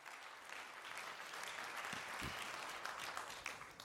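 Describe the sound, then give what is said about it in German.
A crowd applauds steadily to welcome a speaker to a talk on hacking the Raspberry Pi RP2350 microcontroller, many hands clapping in a dense, continuous wash of noise that holds at an even level for several seconds without any voices on top. “Bitte gebt einen herzlichen Applaus zu Aideen.”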